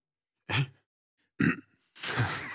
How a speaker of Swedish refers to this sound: Jag hade en hicka och skulle skratta till så blev det ejakulation. Kort men snabb.